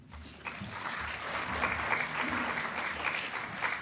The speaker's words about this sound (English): The things you'll do to get two claps. Well, perhaps you can get another one.